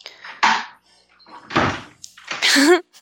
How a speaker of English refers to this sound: Give me a second here. I'm gonna go close a couple doors so we Oh, don't get perfect. outside noise.